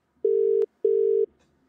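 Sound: telephone dialing and ringing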